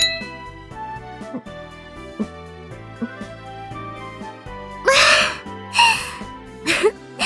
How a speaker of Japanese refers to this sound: あ、そうだ、せっかくだから一緒にお祝いしましょうか。ほら、グラス用意して乾杯しましょう。いい？行くわよ、乾杯。